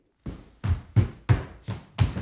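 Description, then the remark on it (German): Six heavy, thudding footfalls land at a steady rhythm, each a deep, loud stomp with a short decay before the next one hits, as the character Theobald Trampel stomps his feet to make music. “Theobald Trampel hält sich selbst für den genialsten Trampelisten der Welt und er trampelt den ganzen Tag, was das Zeug hält.”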